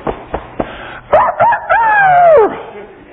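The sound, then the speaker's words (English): A rooster crows once, a loud cock-a-doodle-doo with a few quick rising notes and a long drawn-out final note that falls away, preceded by three soft thumps. “And when that cock crew, he didn't keep stomping his feet and cussing.”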